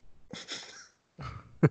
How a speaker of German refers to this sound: Pardon, ich musste kurz niesen.